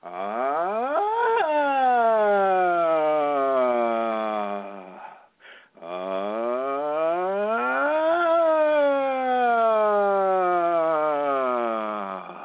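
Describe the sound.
A single voice does vocal toning, sustaining a continuous tone that starts low and slides upward and back down, imitating a siren, then after a short breath repeats the same slow rising and falling sweep.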